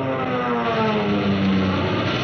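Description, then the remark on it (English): Fighter plane engines roar in a steady, loud drone, the pitch shifting slightly as the aircraft swoop past: Nazi planes diving to bomb ships and RAF planes zooming up to fight them. No voices are heard. “You can see two of those kids of the RAF and their planes, your planes, zooming up to fight for those ships, for your life.”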